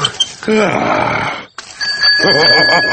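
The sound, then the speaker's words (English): The bell on Peppa's little bicycle rings out in a bright, sustained tone during the second half, layered over voices and grunting sounds that fill the whole clip. “These are the brakes. And this is the bell.”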